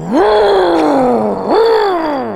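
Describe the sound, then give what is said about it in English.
A person vocally imitates the loud rev of a car engine, like the car taking off: two loud, humming surges, each jumping up sharply in pitch and then sliding slowly down, run together without a break. “What did the rev sound like? I truly, it sounded like the car was, like, taking off.”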